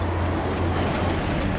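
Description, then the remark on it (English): A car engine rumbles steadily with a low, constant drone and road hiss as the car drives at nightfall and pulls to a stop outside a barn-like building with a neon sign, heard from inside the vehicle for a brief stretch, with no voices. “stops the car outside the barn-like building with the neon sign.”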